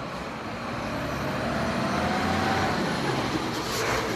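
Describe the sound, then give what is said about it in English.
Steady rumble of minivans and trucks arriving at the Stuttgart Wholesalers Market, engines droning and a faint tonal whine passing, with a brief hiss like an air brake near the end; no one speaks. “One day, perhaps, the minivans and trucks arriving here at the Stuttgart Wholesalers Market will be able to fill up their gas tanks from produce that they once delivered.”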